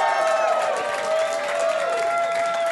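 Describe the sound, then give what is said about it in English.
A crowd applauds and cheers loudly and continuously, dense clapping mixed with shouts and whistles, sustained at a steady level throughout, no talking. “Big round of applause for your buddy and mine.”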